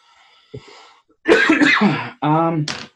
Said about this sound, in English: I keep feeling like I need to cough. I do not have COVID. Don't worry about it.